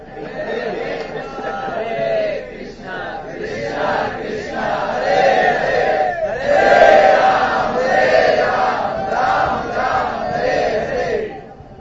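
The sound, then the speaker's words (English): A crowd of many voices screams and shouts at once, a dense, sustained roar of overlapping cries that swells and surges for several seconds without a break. “Everybody's screaming, nobody's chanting.”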